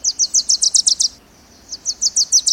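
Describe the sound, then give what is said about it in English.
A Wilson's warbler sings two rapid series of bright, sharp chips, each a quick run of about eight notes, separated by a short pause. The song is clear, with no talking. “It's the tail end of summer, and the Wilson's warblers had a busy few months.”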